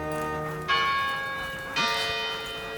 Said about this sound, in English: Hines holds Lassie, who immediately begins straining and pulling at her lead as a clock strikes 4:15.